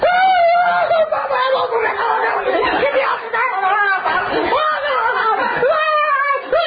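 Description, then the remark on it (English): A voice imitates someone screaming in total terror on a roller coaster, a long, loud, wavering wail held for several seconds with a few breaks and pitch swoops. “You're on the roller coaster, you can either scream your head off out of total terror.”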